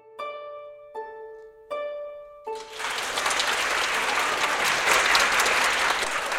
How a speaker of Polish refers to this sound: Nie po raz pierwszy siedzimy w loży dyrektorskiej w Teatrze Osterwy. Publiczność właśnie skończyła oklaskiwać przedstawienie.